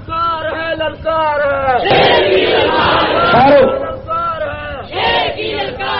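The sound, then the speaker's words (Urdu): A large crowd chants slogans loudly in unison, rhythmic shouted bursts swelling into a roaring mass of voices midway before falling back into chanted phrases, energetic throughout. “کوئی نعرے بازی کی اجازت نہیں ہے اس موضوع پر، ہم نعروں پر یقین نہیں رکھتے.”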